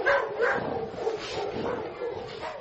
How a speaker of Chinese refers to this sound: 裁判一声令下，一只黑色藏獒向对面的白色猎狼犬冲了过去，但它很快被猎狼犬扑倒在地，狠狠咬住头部。几秒钟后，藏獒死命挣脱出来，腾空跃起，反口咬住猎狼犬的脖子。伴随着阵阵犬吠，两只狗展开了几轮的交锋，撕咬、翻滚、僵持。